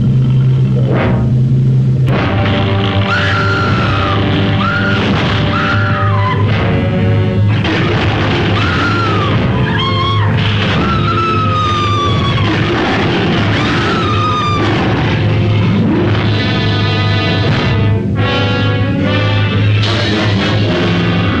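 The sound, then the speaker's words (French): Actress Fay Wray's shrill screams in the film King Kong (RKO), as her character first discovers King Kong: repeated high wavering cries that rise and fall over a loud, dense rumbling soundtrack with heavy low booms throughout. “Fay Wray est considérée comme la première Scream Queen, reine des hurlements de Hollywood.”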